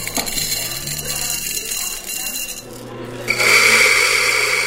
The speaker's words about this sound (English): They're steaming milk for cappuccinos, but the Ruby Coffee Roasters Cafe hasn't opened its doors yet. They're training new employees. This is a pretty beefy grinder. I like how this one sounds.